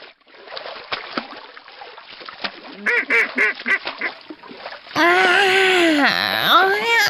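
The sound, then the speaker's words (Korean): Ducks swim and splash about in a pond, then let out a quick series of quacks, followed by loud, drawn-out nasal calls, with the splashing continuing underneath. “지금 우리 가족들은 연못에서 헤엄치고 있네요.”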